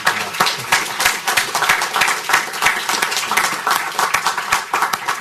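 An audience in Washington applauds steadily to welcome Juan Carlos Pinzón back, many overlapping hand claps forming a dense, even patter that holds for several seconds at moderate loudness.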